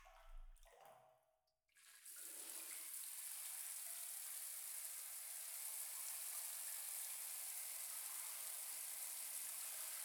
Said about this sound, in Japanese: ではでは最後にシャワーで流していきますね。失礼します。